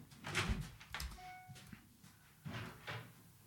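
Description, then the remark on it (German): A door is handled, with several knocking thuds and a brief creaky squeak in the middle, followed by a couple more clunks as it swings shut. “Jetzt holen wir sie mal. Lass ruhig. Tür, zack.”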